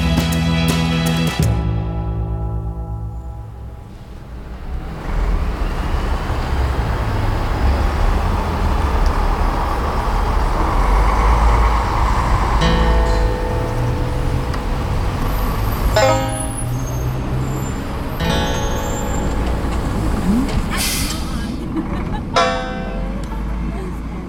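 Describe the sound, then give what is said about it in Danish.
Steady low engine rumble of a bus on the move in the USA, with road noise, occasional rattles and a brief horn toot; faint voices mingle in the background. “Jeg sidder i en bus sammen med et par kammerater fra Skandinavien, som også skal på teaterskole op nordpå i Californien.”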